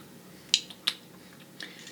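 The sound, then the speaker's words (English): Someone takes a sip of a clear, very bubbly lime drink made with stevia: two sharp, wet mouth clicks, then a soft, brief slurping hiss, quiet and with no talking. “All right, I'm going to taste it.”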